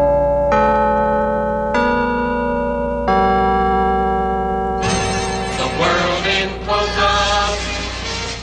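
The Liberty Bank carillon bells in Louisville mark 4 o'clock with three slow, resonant strikes that hang in the air, then break into a louder, fuller peal of overlapping chimes with no voices.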